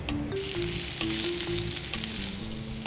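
Flour-dusted chicken sizzles in a frying pan heated with one tablespoon of sesame oil, a steady, dense crackle and hiss with scattered sharp pops, with a faint low melodic tone running underneath throughout.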